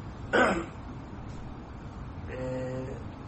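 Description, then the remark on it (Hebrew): A single short cough bursts out, followed after a pause by a softer, drawn-out throat clearing with a low, rasping hum, from a man with a cold caught from weeks of heat and air conditioning, about to give a lecture. “אני מתנצל שאני עם קוסטה פה, זה פשוט מרוב חום בשבועות האחרונים, וחיים תחת המזגנים, אז קורה הדבר ההפוך שבן אדם מצטנן וחוטף מתקפות שיעול, אז אני מראש מתנצל.”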